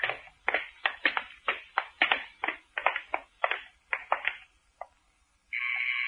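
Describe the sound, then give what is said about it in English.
A doorbell rings in a rapid series of bright, rattling bursts for several seconds, falls silent briefly, then a steady higher-pitched electric tone sounds at the end. No one speaks. “Why did you ring the bell?”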